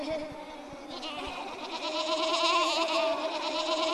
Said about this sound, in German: Das musste die Schafherde sein. Und je deutlicher Berthold deren Blöken vernahm